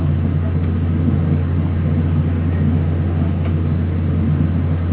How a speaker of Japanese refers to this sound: 急行、利尻行でございます。2分遅れて発車しております。接続列車待ち合わせいたしましたので2分遅れて発車しております。